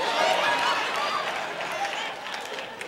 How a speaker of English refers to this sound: Oh, you ain't got to clap for me.